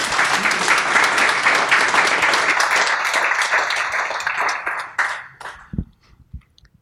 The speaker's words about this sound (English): I mean, we should give that a round of applause because it's fantastic.